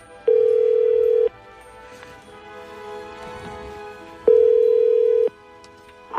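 A telephone ringback tone sounds twice, each a steady, loud one-second buzz separated by a three-second pause, over a faint murmuring background, as Radio Ognišče calls a listener in Velika Račna, Grosuplje.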